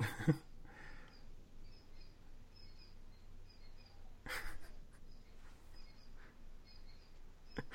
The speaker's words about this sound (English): I heard there's like a bird in the background. Here? Yeah. Oh. But it sounds over the microphone, it sounds like bed springs.